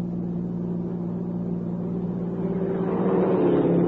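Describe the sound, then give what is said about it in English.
A car engine hums with a steady low drone as a car pulls out from the Echo Cave Lodge road, then swells louder and brighter over the last second or so as the vehicle speeds up. No one speaks. “There's a car pulling out from the lodge road.”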